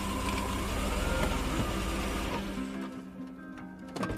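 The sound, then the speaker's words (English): An SUV's engine rumbles as it pulls up to a hotel. The noise drops away as the vehicle slows and comes to a stop, leaving a quieter idle with a faint clunk at the end. “pulls up to the hotel in her SUV.”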